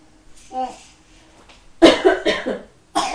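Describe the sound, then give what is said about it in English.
A few harsh coughs burst out in quick succession after a brief faint vocal sound, with a short pause before a final cough at the end. “Bad cough?”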